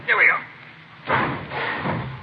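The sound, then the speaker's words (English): A garage door swings open with a broad, rushing scrape and rumble that rises after a brief muffled bump, at moderate loudness. “I don't want to hit you. Watch the door”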